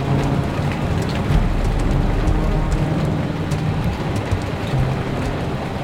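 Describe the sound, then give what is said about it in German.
Snow, sleet and hail drum steadily against a window during a storm. The dense, continuous patter has sharper individual clicks scattered throughout and a low rumbling undertone, with no voices. “Das waren keine Regentropfen, was da gegen unser Fenster trommelte. Schnee. Graupel, Hagel, echtes Sauwetter.”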